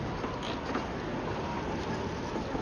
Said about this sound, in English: He wedges the flat end into the door jamb and wiggles the handle.